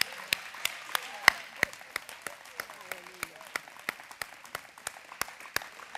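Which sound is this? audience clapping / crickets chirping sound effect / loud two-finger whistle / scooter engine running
audience clapping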